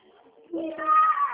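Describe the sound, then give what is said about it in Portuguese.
A small boy, the speaker's son, lets out a single high-pitched shout lasting about a second, loud and rising then falling slightly, after a moment of quiet background murmur. “Ai, grito que ele deu, que bonitinho.”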